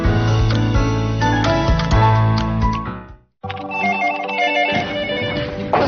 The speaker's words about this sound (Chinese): 响了，快点。 好， 我一天呢差不多要接上百个电话，都是来咨询我们贝利欧羊奶粉的。